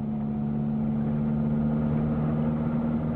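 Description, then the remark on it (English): The engine of a boxy, chromeless, Iranian-made Paykan sedan runs at a steady idle, an even mechanical hum with a low droning tone that holds constant throughout, with no voices. “To Iranians, this is the top 40 car hit of all time. The boxy, chromeless, four-wheel, one-size-fits-all Iranian-made Paycan sedan.”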